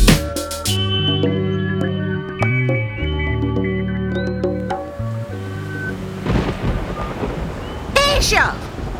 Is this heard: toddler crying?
no